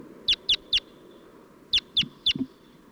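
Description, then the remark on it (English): Two bursts of three sharp, high bird calls, evenly spaced, separated by a short pause, over a low background rumble with no talking. Two tracked birds, one giving alarm calls and the other flight calls, with wild birds around. “5-7's giving alarm calls, and 40's giving flight calls.”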